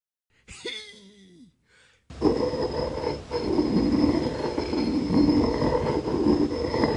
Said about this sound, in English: When Jacob saw her, he went straight to the well. Even though the stone was large and heavy, he rolled it away all by himself.